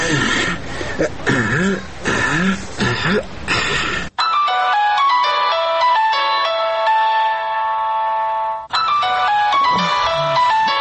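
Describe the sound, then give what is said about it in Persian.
A telephone ringtone plays a steady electronic melody for several seconds as an incoming call, loud, with a voice speaking just before it starts and again briefly after it stops. “تا که مجبور شدم در تلفن برات زنگ بزنم.”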